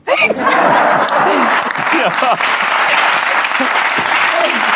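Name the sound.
hand clapping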